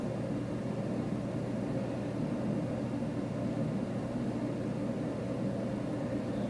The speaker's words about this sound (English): Hear the vent.